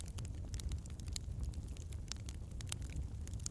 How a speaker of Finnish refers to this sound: Ja jäät vielä hetken ajaksi rauhoittavan nuotion äärelle.